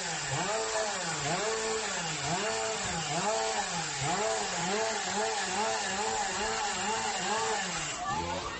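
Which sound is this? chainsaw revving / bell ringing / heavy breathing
chainsaw revving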